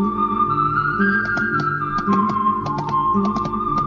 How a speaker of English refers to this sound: you know, it starts off with this like little whistling tune.